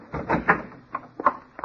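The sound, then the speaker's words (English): A door is opened with a short cluster of clunks and rattles: a longer scrape-like burst, then several sharp knocks of the latch and frame, moderately loud, with no talking. “Open the door.”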